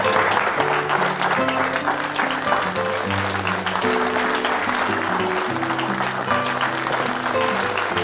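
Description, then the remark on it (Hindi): A crowd applauds steadily for several seconds, a dense, even wash of clapping that holds at a constant level throughout, with low tonal music sounding underneath. “मैं आपकी तालियों का हकदार नहीं, मैं तो यहां पर खड़े होने का भी हकदार नहीं,”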